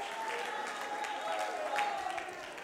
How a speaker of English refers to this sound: But when you begin to praise God and you begin to worship Him, He begins to make a way. Oh, somebody ought to clap your hands.